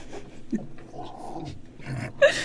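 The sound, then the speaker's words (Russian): A person sitting at a director's console imitates a dog barking, saying "gav-gav-gav": a few short bark-like yelps spread unevenly across the moment, the last one loudest, with faint background noise between. “просто сидит за режиссерским пультом и зачем-то говорит гав-гав-гав.”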